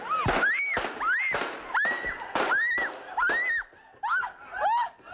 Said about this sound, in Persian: آنچرا که شنیدی صدای حادثه تیراندازی به طرف این گزارشگر آمریکایی بود.